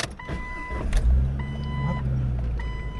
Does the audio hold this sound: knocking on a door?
no